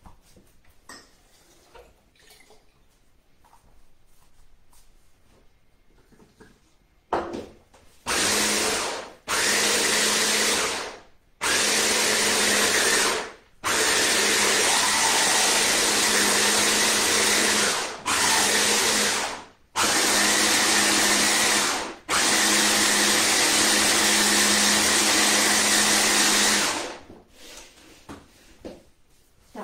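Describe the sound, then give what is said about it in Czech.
A blender whirs loudly in repeated bursts as food is blended with a little added water, starting and stopping about seven times with brief pauses between, its broad motor roar steady during each run; quiet handling noises come before it starts. “Rozmixovanou, tak ji přendám do hrnce.”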